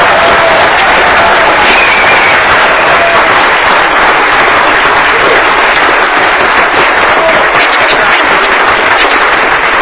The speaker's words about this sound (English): And you may now applaud and take photos.